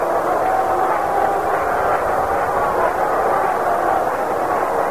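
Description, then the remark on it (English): A large baseball stadium crowd roars and cheers as Yankees batter Bobby Mercer comes up, in a dense, steady wash of noise that holds at an even loudness for the whole stretch, with no voice rising above it. “Listen to the crowd. Listen to it.”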